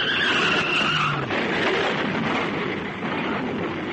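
Loud, sustained screech of a grey car's tires skidding on pavement as it bears down at high speed on a police car just before a collision, a harsh continuous roar with a high squeal at the start, lasting several seconds with no voices.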